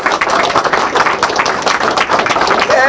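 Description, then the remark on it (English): A crowd at an event applauds loudly and steadily for the event's organizers, many hands clapping in a dense wash, with voices cheering and calling out over it throughout. “So I'm going to just go around and tell you who these folks are, and then you can scream the applause they deserve.”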